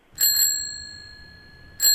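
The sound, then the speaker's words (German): A bicycle bell rings twice in quick succession, its bright metallic tone lingering, then rings again near the end. Clear, with no voices. “Fahrradklingel und?”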